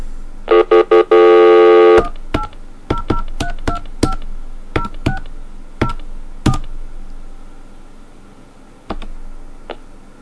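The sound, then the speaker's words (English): Touch-tone phone dialing of an MCI rechargeable prepaid phone card to check the minutes left: a few quick tones and a long sustained beep, then a series of short, evenly spaced keypad beeps with pauses, loud, with no voices. “Let's just let's fake a call here and see how many minutes are left.”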